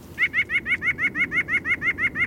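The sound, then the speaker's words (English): A white-breasted nuthatch sings a rapid, even series of about a dozen nasal, laughing notes, clear and fairly close, over a low background rumble. “They're petite songbirds that walk upside down on tree trunks looking for food, and their song sounds a bit like laughter.”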